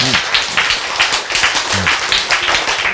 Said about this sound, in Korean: 이제 박수 쳐야지 이럴 때는. 그렇죠.